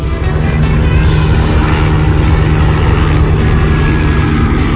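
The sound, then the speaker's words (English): A helicopter drones overhead, a loud, steady low rumble with a dense wash of engine and rotor noise that holds at the same level throughout, with no voices. “And here comes a helicopter overhead.”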